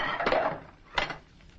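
Dirty metal spoons are angrily beaten in a basin of water and soap suds, clattering and clinking together in a busy rattling burst followed by a sharper single clack, then softer scattered taps and splashy rustling.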